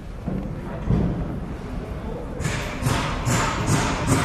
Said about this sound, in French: Voilà, vous entendez les coups de marteau déjà.